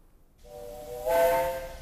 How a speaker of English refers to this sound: What's happening outside? They're getting up steam on the engine.